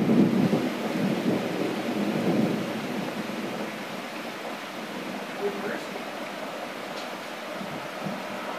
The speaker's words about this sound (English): You're mainly hearing rain and traffic. Oh, there's thunder.